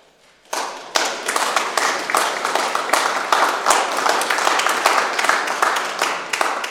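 A crowd breaks into sustained applause, many hands clapping densely and steadily for several seconds after a brief quiet start, with no talking over it; applause for an absent choir singer, at a Friday-evening mass sung by the Sint-Jozef choir.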